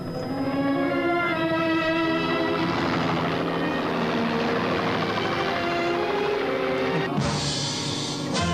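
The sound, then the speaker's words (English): A helicopter's loud, steady engine and rotor drone fills the whole stretch, holding constant, with a brighter, harsher surge near the end, in a film scene as a man with a gun gets into the helicopter. No one speaks. “The other guy just puts it down and then he takes the gun and he gets into the chopper.”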